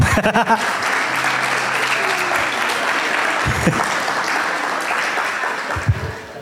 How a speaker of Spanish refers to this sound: Ahora sí, pueden tomar asiento y un aplauso para todos los que se han convertido.